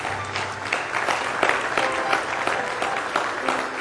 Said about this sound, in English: Give the Lord another hand clap of praise tonight.